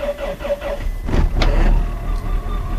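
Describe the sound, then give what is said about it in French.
A car engine struggles to start in cold of minus 15 to minus 20 degrees, cranking over with several slow, labored starter pulses before sputtering and catching into a rough, loud idle, with no talking. “Les voitures ont aussi bien du mal à démarrer par moins 15 ou moins 20.”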